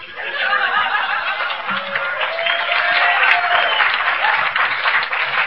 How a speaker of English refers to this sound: I don't know what you're clapping for. You weren't there.